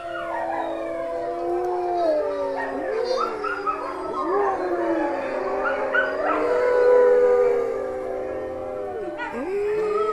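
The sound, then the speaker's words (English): Several rescued wolf dogs howl together in a sustained, overlapping chorus after a woman starts the howl with a sustained howl of her own, long wavering tones rising and falling against one another, steady throughout with no talking. “She gets the howl started with a sustained howl of her own. And eventually the wolves join in.”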